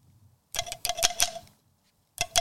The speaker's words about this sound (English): Little ASMR. Glass straws. Glass straws.